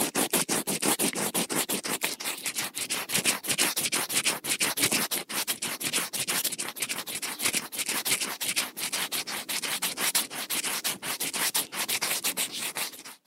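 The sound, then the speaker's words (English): A finger rubs steadily against the back of a papery wasp nest, making a dense, rapid scratching rasp that repeats in quick strokes for several seconds, fairly loud, with no voices. “The noise you just heard was me rubbing my finger against the back of a wasp nest.”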